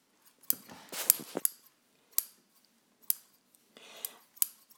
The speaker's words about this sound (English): Let me just get my scissors out and, oh yeah, here we go.